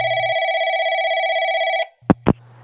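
A phone line rings out for an outgoing call with one long, steady electronic tone lasting nearly two seconds, then a low line hum and two sharp clicks as the call connects. No one speaks.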